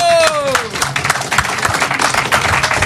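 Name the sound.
audience applause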